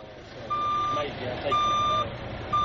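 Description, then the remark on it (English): A truck's reversing alarm beeps in steady, evenly spaced tones about once a second, loud over a low rumbling engine and outdoor background noise, as elephants trucked over 400 kilometers from Luwonde Wildlife Reserve are released into Nkodakota Wildlife Reserve in central Malawi. “They are here after traveling more than 400 kilometers by truck from Luwonde Wildlife Reserve in southern Malawi.”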